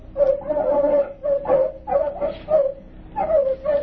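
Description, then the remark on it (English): Artificially enlarged terriers loosed in crop fields bark and yip in quick, overlapping bursts, a high-pitched, excited volley that repeats with brief pauses, loud, with no talking. “L plus 50, artificially enlarged terriers loosed in the fields of the fast crops. Following tape, field observation of terriers.”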